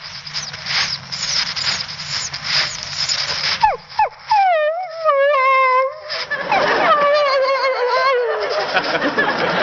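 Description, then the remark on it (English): After a burst of hissy noise, a person imitates a dog that is being left behind and wants to go along with its master: a run of high, wavering, pleading whimpers that swoop up and down, fairly loud, ending in a drawn-out cry. “When a dog feels he is being left behind and wants to go along with his master, he'll sound like this.”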